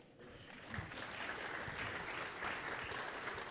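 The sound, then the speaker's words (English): Steady applause from an audience, a dense wash of many hands clapping at once, sustained and fairly loud throughout with no voices standing out. “And just so you know, we love gratuitous applause.”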